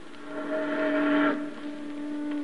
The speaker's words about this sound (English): A steamboat.